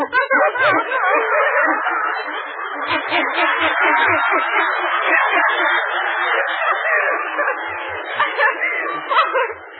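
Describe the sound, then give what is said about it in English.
A small Mexican chihuahua named Mopsy yaps and yips nonstop, a rapid, high-pitched barrage of barks that stays loud for the whole stretch. “She's my little Mexican chihuahua.”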